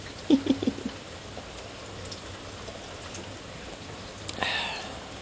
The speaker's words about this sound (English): I'm invisible. The rain is an invisibility cloak.